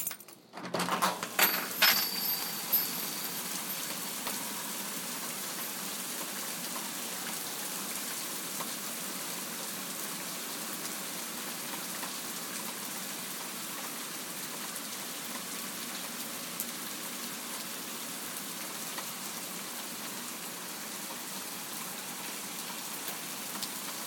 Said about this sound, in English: I'm going to open the front door slightly, and I'm not going to get soaked, and I'm going to let you hear it because it's absolutely chucking it down.